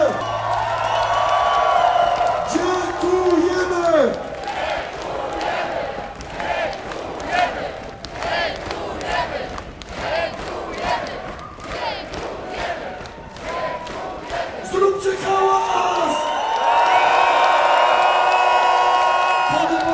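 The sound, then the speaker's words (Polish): A large crowd at Poland Rock Festival roars for a folk band, cheering and shouting continuously, with whoops and loud collective yells rising at the start and end, dense and sustained throughout. “Zróbcie hałas na …!”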